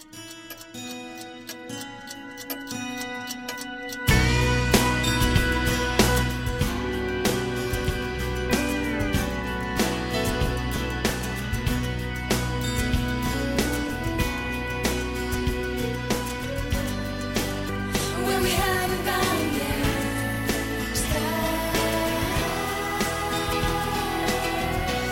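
A music track plays, opening with a soft, sparse intro before a full, loud arrangement kicks in after a few seconds and carries on with a steady beat and sustained melodic lines. No one speaks.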